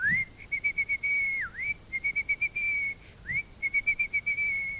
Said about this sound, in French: Petit Pierre les siffle à nouveau. Et les voilà qui reviennent tous les 12. Oh, bah, du Petit Pierre, c'est facile. Et le soir, pour revenir au palais, il siffle et les lapins le suivent.